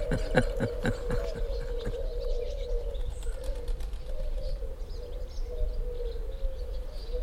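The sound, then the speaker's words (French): Low, hollow turtle dove coos repeat in a rhythmic series, steady for several seconds, with faint chirps from other birds over a constant low background rumble outdoors. “Mais là, les tourterelles, c'est mignon, c'est mignon comme tout, ouais, c'est vrai.”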